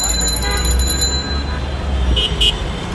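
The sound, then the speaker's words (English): Dense street traffic of rickshaws and cars in Dhaka, Bangladesh rumbles steadily while a sustained horn blares at the start, followed by two short, sharp honks or bell rings near the end; indistinct voices mix into the background. “You hear rickshaws and cars.”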